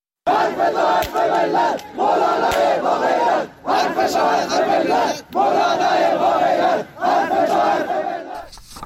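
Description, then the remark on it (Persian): A large crowd of supporters of Sunni cleric Molavi Gorgij chants loudly in unison outside his house in Galikesh, Golestan province, Iran, on Sunday, demanding the cancellation of his summons to the Special Clerical Court, with four sustained bursts of shouted slogans separated by brief pauses, forming a steady, rhythmic cadence. “حامیان مولوی گرگیج، روحانی با نفوذ اهل سنت استان گلستان، یک شنبه با تجمع در مقابل خانه او در شهر گالیکش خواهان لغو احضار این روحانی اهل سنت به دادگاه ویژه روحانیت شدند.”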